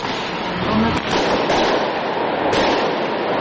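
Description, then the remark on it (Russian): Sharp popping bursts of fireworks crack out every second or so over a dense, roaring wash of crowd noise, loud, with voices blurred into the din; fireworks fired by protesters against tear gas and water cannons at a street protest in Tbilisi, Georgia. “Пулеметы из фейерверков против слезоточивого газа и водометов.”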